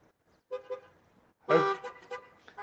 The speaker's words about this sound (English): I'm glad to hear you beeping those horns.